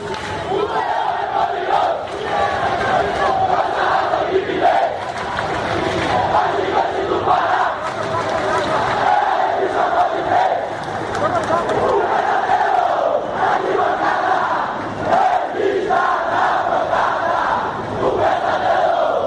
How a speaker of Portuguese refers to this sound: E vamos ouvir agora então a torcida remoçada